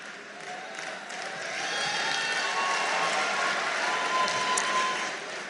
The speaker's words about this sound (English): You better listen before you start clapping.